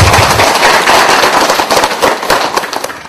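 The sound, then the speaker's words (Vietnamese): A loud, steady round of applause from a Buddhist audience at a monk's talk, many hands clapping densely together for about three seconds, filling the room, with no talking over it. “Rồi, xin Phật tử một tràng pháo tay.”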